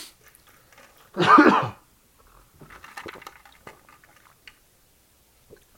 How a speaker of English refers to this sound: No ice. Ooh, served up. Served up in a paper cup. And I don't think it's going to be any good. All right, for sips.